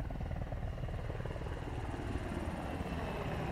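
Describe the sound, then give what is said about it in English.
A new assault helicopter flies away, its rotor thudding in a steady, rapid chop with a constant engine roar, fairly loud and unbroken throughout, with no voices. “Sergeant Major, there's been an unscheduled departure of one of our new assault choppers.”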